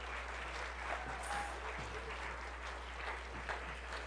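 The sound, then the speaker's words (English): Steady applause from an audience clapping for people on their way out. It is a dense wash of many hands clapping at a fairly constant moderate level, with a faint low hum underneath and no clear voices. “Can you give my hand clap on their way out?”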